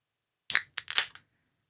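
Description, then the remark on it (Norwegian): Two people each crack open their own soda can, one after the other rather than together, in quick succession: sharp metallic pops, each followed by a brief bright fizzing hiss, lasting under a second in total with no talking. “Kan dere ikke gjette hvilken, hvem, gjett på duda.podcast sin Instagram, hvem som åpnet brusen sin først?”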